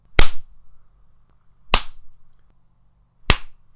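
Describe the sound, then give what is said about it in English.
Three sharp, crisp slaps across the cheek land about a second and a half apart, each a loud smack with a brief ring-off, and only quiet stillness between them. “Oh, baby, one little slap across the cheek.”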